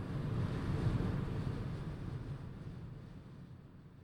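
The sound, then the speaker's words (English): Strong wind buffets the microphone with a loud, continuous low rumble and gusty roar, no one talking, easing off slightly toward the end. “I mean, good God, is it windy. I don't even know if this is going to be usable audio here.”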